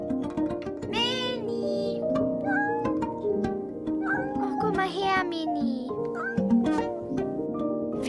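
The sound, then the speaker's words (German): A cat meows repeatedly, a string of short, chattering meows with rising and falling pitch, fairly loud over a steady, continuous background hum. “Also zu allem machte sie Geräusche und Tante Flora fand, dass sie sprechen könne.”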